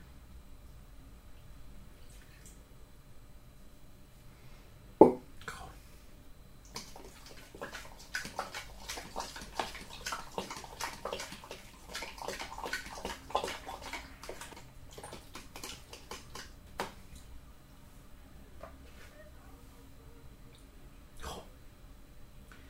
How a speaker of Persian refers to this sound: فقط حس میکنم میذاره آب لیمو دیگه میخواد، آب لیمو اضافه میکنم.